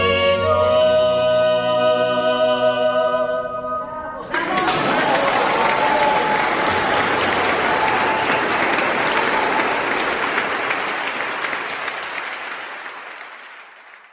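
A vocal and instrumental performance of a villancico ends on sustained tones, then an audience bursts into loud, steady applause that keeps going for about ten seconds before gradually thinning out.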